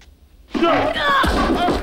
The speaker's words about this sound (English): A playful tap from Sloth sends Chunk falling backwards on his chair. When he's returned to an upright position, he looks stunned.